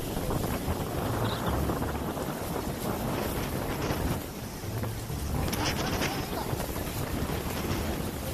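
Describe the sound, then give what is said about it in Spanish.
Roaring wind of Hurricane Iota, a category 5 hurricane, passing over the island of Providencia between 15 and 16 November 2020, blows steadily and loudly, a dense rushing noise with buffeting gusts and low rumbling, continuous throughout with no voices. “Así fue que se escuchó en la isla de Providencia el paso del huracán Iota entre el 15 y el 16 de noviembre de 2020.”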